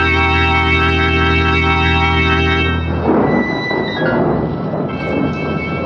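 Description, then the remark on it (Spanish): A sustained droning tone gives way to a loud thunderstorm over an island, with thunder rumbling and rolling over a steady hiss of heavy rain. No voices. “La tormenta descarga toda su violencia sobre la isla.”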